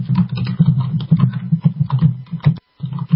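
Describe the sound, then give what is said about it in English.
Rapid, irregular clicking of keys on a computer keyboard, steady, over a constant low hum, with a brief pause before the typing resumes, as Paul Watson types and posts information at InfoWars.com. “And you can hear Paul Watson there typing in the background.”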